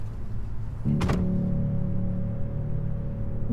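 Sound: car door shutting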